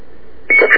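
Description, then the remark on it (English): A dial-up modem's electronic tones start abruptly after a quiet stretch, a brief, loud burst of beeping, screeching pitches with no voices. “That's the modem.”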